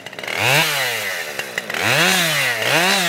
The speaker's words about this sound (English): After settling on a plan, he clears brush from the route with a chainsaw.